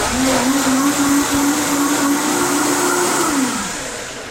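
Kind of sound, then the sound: household object, blender running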